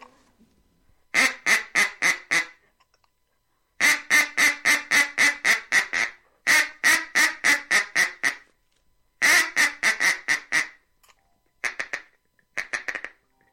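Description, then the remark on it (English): A brand-new, fairly inexpensive duck call blown in a feeding chuckle: rapid, staccato clucking notes in several quick bursts separated by short pauses, loud with no voices. “That's a feeding chuckle.”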